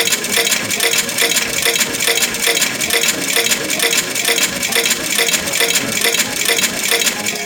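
A continuous stream of bright, jingling video game coin sound effects as a player bets all coins by repeatedly pressing the left shift key, rapid and densely overlapping like coins pouring in, loud and steady throughout with no talking.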